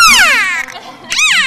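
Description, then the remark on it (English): A female beluga whale vocalizes with loud, high-pitched squealing calls: a long whistle sliding downward, a brief lull, then a shorter rising-and-falling squeal. No one speaks. “And she's a very vocal whale.”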